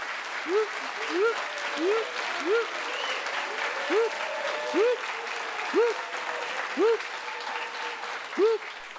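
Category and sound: crowd, audience applause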